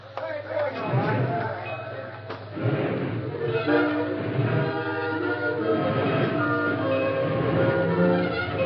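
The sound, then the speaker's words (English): A train pulls away with steady chugging and rumbling while a loud whistle sounds over it, with muffled voices faintly underneath throughout. The train runs between a mining camp and Jackson Junction. “The Lone Ranger and Tonto were well ahead of the train in the country between the mining camp and Jackson Junction.”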